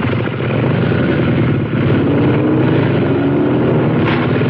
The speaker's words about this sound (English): The headlights of what appeared to be a large car flashed onto him. The headlights separated as two motorcycles roared down the length of the garage.